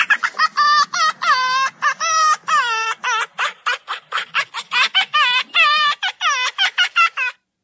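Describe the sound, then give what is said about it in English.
A fox getting its tummy rubbed makes a rapid string of high, harmonic yips and chattering squeals, pulsing in quick bursts with an almost human, laughing quality over a soft panting undertone. “This is indeed a fox getting its tummy rubbed.”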